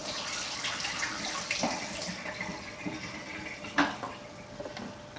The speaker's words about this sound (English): I'm just using tap water here, right? Nothing too fancy. I think that's pretty close to 15 seconds. I'm just gonna dump that water out.